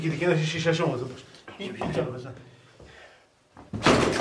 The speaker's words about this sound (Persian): بشکنید دیگه، در رو بشکنید دیگه.